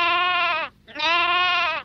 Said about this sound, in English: Sheep.